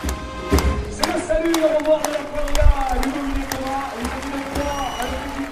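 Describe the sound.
Scattered, uneven clapping from an audience for a team of athletes who performed extreme jumps, sharp claps landing irregularly rather than in a dense roar, over a steady murmur of voices and a sustained tonal hum.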